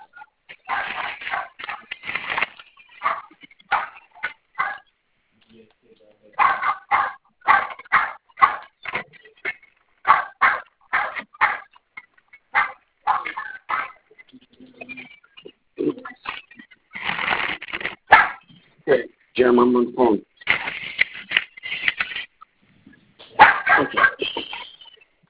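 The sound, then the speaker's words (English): A dog barks repeatedly in loud, irregular bursts, with brief pauses between volleys, while a person briefly speaks over the commotion as they come home from work through the front door. “Dog's going to start barking, so bear with me for a minute.”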